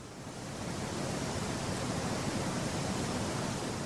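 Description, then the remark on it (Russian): A dense, steady roar of heavy rain pours down without a break, swelling slightly at the start and then holding loud and unbroken, with no voices present. “Тогда дверь закрыли, и все стояли и слушали, как с оглушительным шумом рушатся с неба тонны, потоки воды, без просвета, без конца.”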